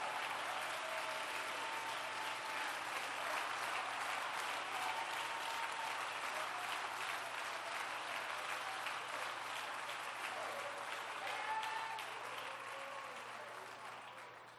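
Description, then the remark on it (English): A church audience stands and claps steadily for about fifteen seconds at a Pentecost harvest-time service, a dense wash of hand claps with faint cheers and voices mixed in, slowly tapering off toward the end. “Stand up and clap your hands and shout, welcome to Pentecost at harvest time.”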